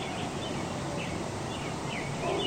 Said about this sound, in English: Chances are you may have already heard the early birds. That cacophony of sound as the sun rises and sets in your neighborhood. Spring birds are singing.